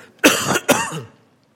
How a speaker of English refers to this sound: Pardon me, I've got the Five Valleys cough at the moment.